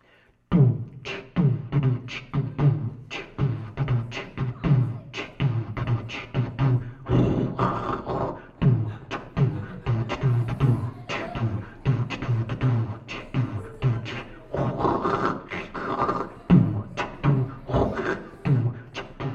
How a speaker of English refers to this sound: you had a little automatic drum machine, and you could make a rhythm with that. You've seen people do that before. And then you could play that thunderstorm sound, and it would sound like music, like this.